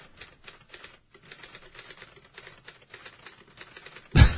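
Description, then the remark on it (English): Rapid, continuous clacking of keys as clerks type up stories on keyboards in the All Marine Radio newsroom, steady, ending with a sudden loud thump. “You want to know how you can tell it's the newsroom? The clerks are typing.”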